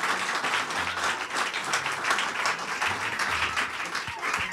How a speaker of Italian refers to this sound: Buonasera a voi che siete qua nell'auditorium e buonasera a chi ci sta ascoltando da casa. Scappiamo anche un applauso.